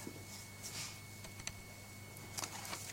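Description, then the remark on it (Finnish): A few scattered, soft clicks on a computer keyboard tap out irregularly over a steady low electrical hum, with no one speaking. “Toimisikohan toinen näppäimistö.”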